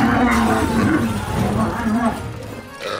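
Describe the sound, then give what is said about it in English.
A lion roars loudly, one deep, rumbling, sustained roar lasting about three seconds, with growling texture that eases slightly toward the end. “Her parents got her a lion, but then it ate her favorite servant.”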